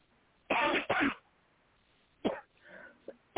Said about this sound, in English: Yeah, I was trying not to stop coughing, but.